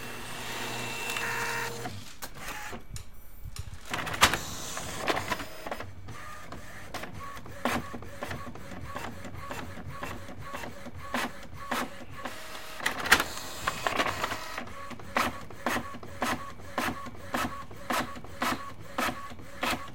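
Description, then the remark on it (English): A printer runs steadily on its own, its mechanism whirring and clicking in a regular, repeating rhythm as pages feed through, fairly loud with no voices present. “There's no time to save this onto the SD card, but the printer is full of paper.”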